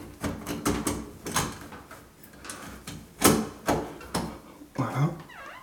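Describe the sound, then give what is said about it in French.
A door lock being fitted back into its housing in a door, with a rapid series of irregular sharp clicks, knocks and brief scraping as metal parts are pushed into place. “Donc je repositionne ma serrure dans ce logement, dans la porte, hop, comme ceci.”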